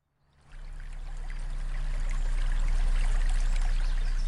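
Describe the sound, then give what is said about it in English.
A small stream trickles and bubbles steadily out of a marsh at the source of the Columbia River, between the Purcell and Rocky Mountains in southeastern British Columbia, its gentle splashing rising in from silence and holding even throughout, with a low hum underneath and no voices. “The mighty river begins as a trickle. The Columbia bubbles out of a marsh between the Purcell and Rocky Mountains in southeastern BC, where I live.”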